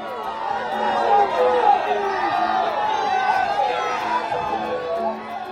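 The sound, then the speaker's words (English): Crowds of supporters cheer and shout as Prime Minister Narendra Modi greets them after casting his ballot in Gujarat, India, many overlapping voices blending into a steady, dense roar with excited calls rising above it, holding at a fairly loud level throughout. “Yesterday, the latest phase began, and in the state of Gujarat, Prime Minister Narendra Modi himself cast a ballot before greeting crowds of cheering supporters.”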